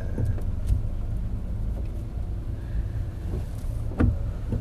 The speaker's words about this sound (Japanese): 渋滞ですね。 渋滞ですね。